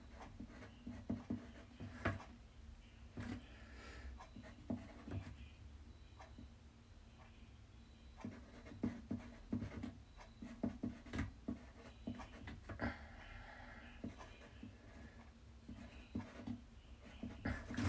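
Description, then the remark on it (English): A pencil scratches across paper in quick, irregular strokes and taps, continuing steadily with brief pauses. The dry, rasping scribbles are fairly quiet, with a faint steady hum beneath and no talking. “Oh, sorry, my pencil slipped.”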